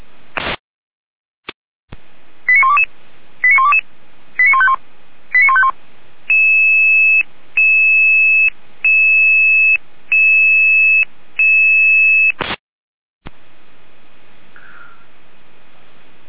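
A burst of radio alerting tones for emergency dispatch: quick stepped tone sequences, then a steady series of evenly spaced long electronic tone pulses, loud and clear, framed by radio clicks and static.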